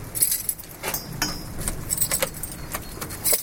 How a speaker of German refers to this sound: Da hat es eine Kamera und dann geht die Tür elektrisch auf und dann kann man reingehen. Ich mache es jetzt mit dem Schlüssel.